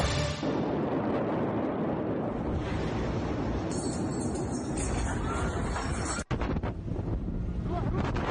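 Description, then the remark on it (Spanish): A massive explosion in the port of Beirut, Lebanon, at about 6 in the evening local time, roars through the whole recording as a loud, distorted rumble, buffeting the microphone like heavy wind, with a brief cutout near the end before the roar continues. “Bueno, es el sonido estremecedor, sin duda, de la explosión que ayer a eso de las 6 de la tarde, hora local, se registraba en Beirut, la capital del Líbano.”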